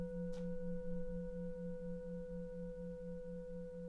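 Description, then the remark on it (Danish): A large singing bowl, the largest one the player has brought, rings out after a single strike, its deep fundamental tone pulsing slowly with a steady beating while higher overtones hum above it, sustained and clear with no voices. “Måske skulle jeg bare lige prøve en gang at slå. Ja, lad os da endelig for. Så den største syngeskål, jeg har med, det er denne her.”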